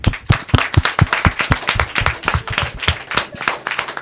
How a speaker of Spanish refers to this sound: Merecéis el mayor de los aplausos, que os lo damos nosotros y vosotros a vosotros mismos.